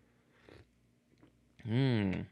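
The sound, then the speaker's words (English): Two soft, brief slurping sips of a hot, sweet, stirred coffee drink with creamer and sugar, followed by a loud, drawn-out satisfied vocal exhale. “And let's have a sip.”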